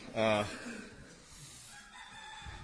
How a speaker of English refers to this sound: For those of you who don't know, Kauai is overrun with chickens. They're always crowing at all times of the day. Untethered chickens.